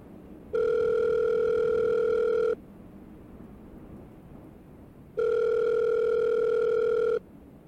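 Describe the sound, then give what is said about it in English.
Two long, steady buzzing rings of a telephone line, each about two seconds, separated by a pause of silence with a low background hiss. The tone is mid-pitched and fairly loud, with no talking. “I need to make a phone call about this.”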